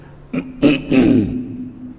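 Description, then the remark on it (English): A person coughs, three short, rough bursts in quick succession that trail off into a low, throaty rasp, with no talking. “When your father coughs, you don't say, what a pity. You say, sorry, sir.”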